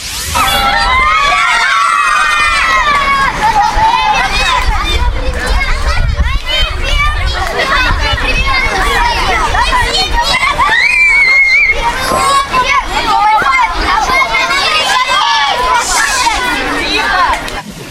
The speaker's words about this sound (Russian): Около 2 часов площадь буквально гудела от детских голосов. Эмоции перехлёстывали через край. Особенно шумно, весело проходили веселые старты.